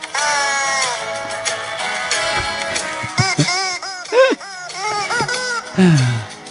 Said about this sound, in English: Is that the man singing, like ventriloquist, or is that actually no, the blow-up? No, that's the... him squeezing this... That's him squeezing this chicken. Da, da, da. This chicken, like, it's, I think it's like a dog toy almost.